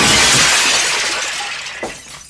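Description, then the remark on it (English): A loud burst of shattering glass as model ships are smashed with a phaser cannon, with bright, crackling high-end debris that scatters and slowly fades, followed by a final small clink as a fragment lands. “just starts screaming and waving a phaser cannon around, and then he smashes it into the ships behind him.”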